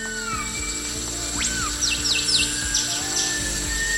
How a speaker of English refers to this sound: Sumatra. Orangutans, whistling thrush, cicadas.